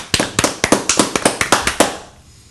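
A short round of applause made of about a dozen sharp, evenly spaced hand claps, loud and crisp, with no talking, stopping abruptly and trailing into quiet.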